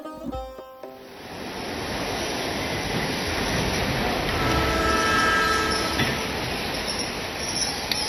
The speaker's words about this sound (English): Attention, train to Yazd is arriving on time at platform number 5.